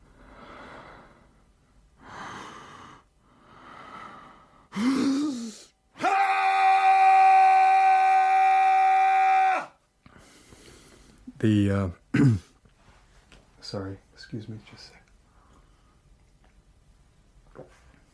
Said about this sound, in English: The second one, it's quite different than the first, falls into the categories of air, male, primal, bardo. It's an air, male, primal, bardo scream.